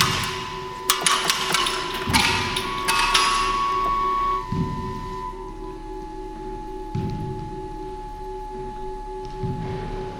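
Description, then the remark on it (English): Sharp mechanical taps and knocks ring out in quick irregular clusters early on, then sparser, duller thumps recur every couple of seconds over a steady resonant hum, as electrically switched solenoid hammers strike the pillars of a building in an installation. No one speaks. “Just electrical switches that turn on these little hammers going solenoids that just hit the pillars.”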